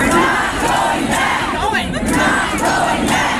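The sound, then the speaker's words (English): A large crowd chants loudly and steadily in the halls and rotunda of a state Capitol building, many voices merging into a dense roar with rhythmic surges every half second or so, and no single speaker standing out. “The crowd then moved into the Capitol building, filling the halls and the rotunda with chants and song.”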